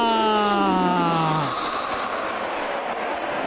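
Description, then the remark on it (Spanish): A loud, sustained siren blares from the stands at a match against Betis, then slides downward in pitch and dies away after about a second and a half, leaving the steady roar of a stadium crowd. “Sirenas, pitos, lo que sea para frenar, para despistar al Betis.”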